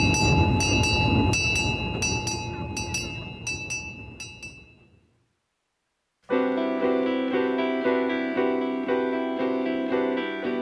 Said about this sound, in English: the railroad will be open through October and maybe into November if weather permits. Taking a ride on the Yosemite Mountain Sugar Pine Railroad,